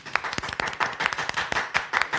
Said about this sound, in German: Warum man auch immer dafür Applaus klatscht.